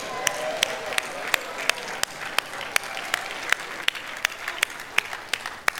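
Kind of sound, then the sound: crowd, audience clapping hands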